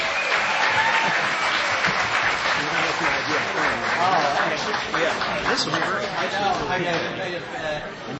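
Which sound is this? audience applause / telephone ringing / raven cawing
audience applause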